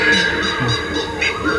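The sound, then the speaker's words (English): Dense jungle ambience with some echo, filled with repeated loud, honking monkey calls sounding a few times in quick succession over a steady bed of background noise. “The others, so this is a jungle that has some monkeys in the background.”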